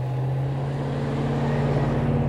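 An occasional car drives by at the corner of Collie and Willowbrook Roads, just off I-39 in Beloit on the Illinois border, beside a cornfield: a low, even engine drone with a faint rumble at steady loudness, with no voices.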